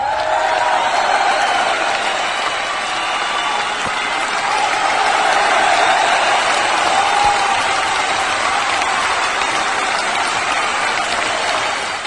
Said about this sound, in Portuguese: Palmas pra ele.